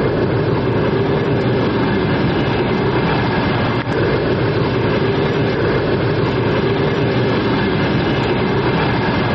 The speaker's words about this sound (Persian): و این همون قطاری است که حالا در به ایستگاه تورسونزاده آمد و ما حالا در ایستگاه راه آهنی تورسونزاده 60 کیلومتری شهر دوشنبه قرار داریم